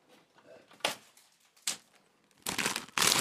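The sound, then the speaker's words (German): A packet of Ölz Minischnecken, small pastry swirls with chocolate cream or chocolate pieces, six individually wrapped, crinkles as it is opened in a few sharp, irregular bursts, two brief crackles followed by longer, louder rustling toward the end, with quieter handling noise between. “So, es knistert ein bisschen.”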